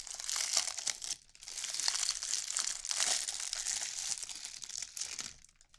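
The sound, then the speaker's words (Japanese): Crackly crinkling of a hotel's plastic bag being handled and pulled open to unwrap a drinking glass, a dense run of sharp rustles with a brief lull early on, then tapering off at the end. No talking. “で、ホテルなんでちゃんと袋に入ってるんですよね。”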